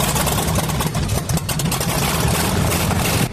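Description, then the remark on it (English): A heavy monster truck engine rumbles steadily at a low, throbbing idle, its deep growl holding constant with a faint rough flutter throughout. “Oh, they got a monster truck over there.”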